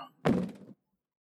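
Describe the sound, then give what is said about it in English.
A single heavy, dull thud like a blackjack blow to the head, loud, with a short low rumble that fades out quickly, as a man is struck while reaching for a light switch. Nothing else follows. “That something that hit me was more than an idea. It was more blackjack style.”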